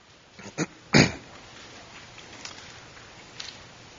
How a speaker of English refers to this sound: It's good to hear the Bibles rustling pages.